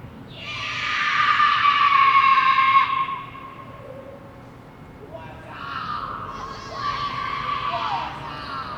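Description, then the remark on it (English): Loud, drawn-out screams from several people echo through the parking garage of Circus Circus Casino, one long wavering cry followed by a second burst of overlapping shrieks a few seconds later. “Those people are screaming.”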